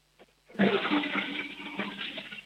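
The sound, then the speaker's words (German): A toilet in Carinthia, Austria, is flushed by a child: after a faint click, a loud rush of water bursts in and churns steadily for about two seconds, with no voices. “Hier kommt die Kärntner Klospülung von Sebastian.”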